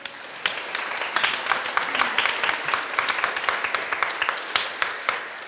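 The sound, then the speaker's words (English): A crowd applauds the custodians at OHS, with many sharp hand claps blending into a dense, even wash of sound that holds at a fairly loud level throughout. “So big round of applause for our custodians here.”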